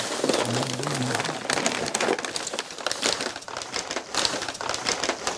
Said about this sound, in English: He takes out different sized bundles wrapped in brown packing paper from the box. He places them on a table and unrolls them.